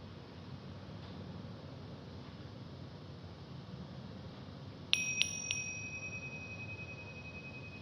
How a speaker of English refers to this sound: Listening not just with your ears, but your whole awareness. Noticing how sounds arise and vanish, leaving no trace. Including the appearing and disappearing of the gong.